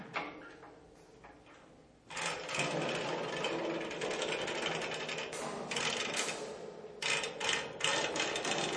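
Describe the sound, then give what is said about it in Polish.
A stage sound effect imitating an anchor being hauled from water: a continuous mechanical ratcheting and grinding, soft at first, then abruptly louder and churning with resonant surges, no voices. “Bardzo ładnie imituje wyciąganie kotwicy z wody. Z tym takim pogłosem, takim rezonansem.”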